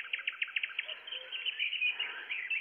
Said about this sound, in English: Dawn. Bird life. Trees. The first day of the world. I hope you don't mind the birds. I like my birdsong loud. It's not real. I mean, I didn't go to the woods with the recorder. I should have.